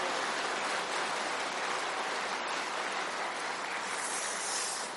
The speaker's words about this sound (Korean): 아, 기다렸다는 듯이 박수가 나오는 거 보니까 누가 치기를 기다렸구만, 시방.